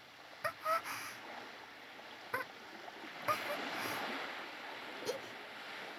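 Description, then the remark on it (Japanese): Soft, steady ocean waves wash onto a wide beach, with a gentle swell rising and falling and a few small splashes and clicks scattered through. Fairly quiet, with no voices. “波の音も、なんだか心地いい。”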